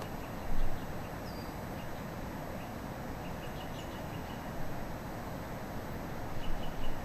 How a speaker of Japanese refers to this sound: 今ギーってコゲラの声がします